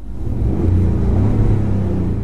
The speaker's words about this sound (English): This is the real actual sound of a Ford F-150. Here you go. All right, quick and dirty. Here is the sound, enhanced, if you will.